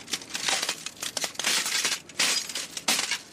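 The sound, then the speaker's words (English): Foley footsteps crunching through broken glass, with a slow run of distinct, bright crackling steps, each a burst of tinkling, grinding shards, fairly loud with no voices. “This is how we do footsteps in glass.”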